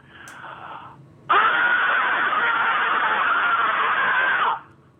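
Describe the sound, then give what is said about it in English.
A caller on a radio phone-in, calling from a cell phone, lets out one long, loud, sustained scream lasting about three seconds, with a phone-line, band-limited quality, preceded by a brief quieter vocal sound. “Hi, I've got a scream. All right, let's hear it.”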